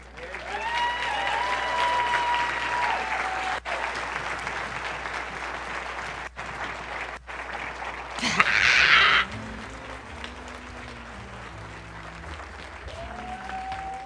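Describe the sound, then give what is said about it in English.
An audience at a Christmas church service applauds loudly and steadily for a speaker, a dense wash of hand claps that swells briefly near the end, then fades into a murmur of voices with faint tonal sounds underneath. “Can you give him another hand clap?”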